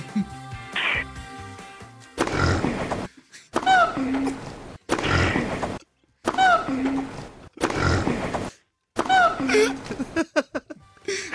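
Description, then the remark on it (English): Loud pig grunts and squeals trade back and forth with rising gibbon whoops, roughly five or six short bursts alternating in quick succession with brief gaps between them. “Can I have a rally between the pig and the gibbon?”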